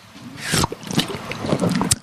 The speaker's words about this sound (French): Est-ce qu'il peut boire une gorgée pour entendre le son, en fait? D'accord, c'est parti. C'est bon, hein. Attention, petite gorgée.